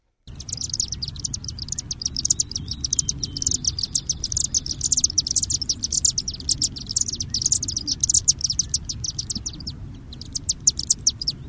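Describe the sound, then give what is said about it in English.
A chimney swift, recorded in West Virginia, gives a rapid, high-pitched chippering call. It is a continuous stream of sharp twittering notes in quick bursts over a low background rumble, with no talking. “Yeah, it's a rapid chippering sound, and one reason that I thought it would be interesting to listen to chimney swift is that they're mostly city and town birds in Ohio now.”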